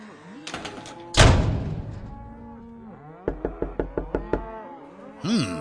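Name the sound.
door closing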